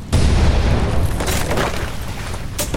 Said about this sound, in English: The huge explosion briefly illuminated the entire bay. Debris was blown high into the sky.